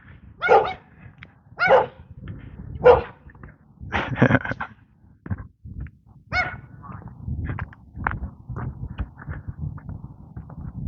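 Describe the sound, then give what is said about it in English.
A dog barks repeatedly in sharp, irregular bursts, clear, with a few quieter yips and short pauses between the louder barks over a low background rumble. “Hello, dog. He's busy sniffing. Oh, you discovered me.”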